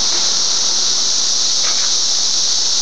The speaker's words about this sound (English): Let's see if the sound sounds like anything interesting in here. Oh, just our voices echo. Doesn't seem to augment the cicada sound.